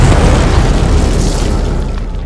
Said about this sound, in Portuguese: Vocês ouvem um barulho de explosão vindo no fim do quarteirão. Eu corro até a janela mais próxima que dê visão do lugar. Tu consegue ver que no estacionamento um carro explodiu.